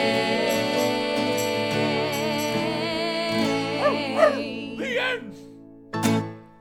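A dog whimpers and yips in a few rising, wavering cries over a steady musical drone, then lets out one sharp bark near the end.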